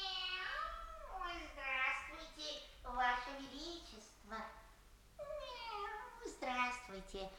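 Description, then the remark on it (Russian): A cat whose master is the Marquis de Carabas meows again and again, about five loud, drawn-out calls that rise and fall in pitch, coming one after another with short gaps. “Какой милый котик! Какой вежливый!”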